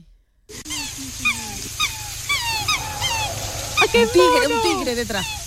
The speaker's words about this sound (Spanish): Es un cisne negro.